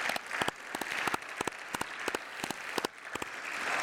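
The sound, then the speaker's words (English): A church crowd applauds steadily to wish a Merry Christmas, dense overlapping hand claps forming a continuous bright patter, with several sharper individual claps standing out, and no voices. “So could we wish them a Merry Christmas? Just do that by applause.”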